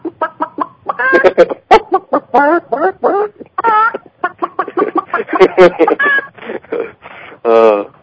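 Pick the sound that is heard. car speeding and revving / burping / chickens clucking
chickens clucking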